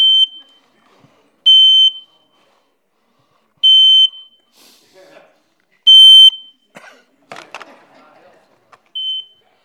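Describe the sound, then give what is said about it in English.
A household smoke alarm sounds a series of loud, piercing high-pitched beeps, repeating roughly every two seconds, with some faint rustling and handling noise between the later beeps. “This is my smoke alarm.”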